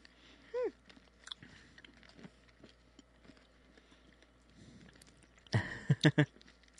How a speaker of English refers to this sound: I don't like crunching into the microphone because I hate eating.